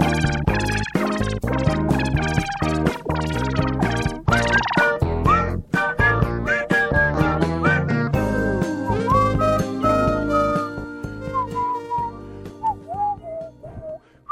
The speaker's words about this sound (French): arrête de siffler